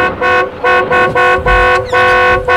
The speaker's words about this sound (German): Fahr neben dem Streifenwagen her, Patrick. Und hupe, hupe